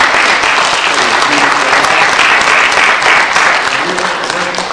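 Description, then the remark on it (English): A crowd gives each other a round of applause at the end of a speech, clapping steadily and loudly, a dense wash of many hands with no pauses, fading just slightly toward the end. “Give each other a big round of applause.”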